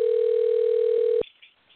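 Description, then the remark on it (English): An outgoing phone call ringing on the line to a man at Lake Charles: one steady electronic ring tone, loud through the receiver, holding for over a second before cutting off into near silence. “Come on, Terry. Answer the phone.”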